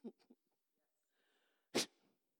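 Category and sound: vocal imitation, voice imitating a sneeze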